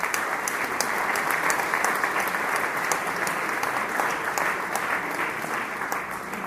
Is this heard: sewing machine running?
no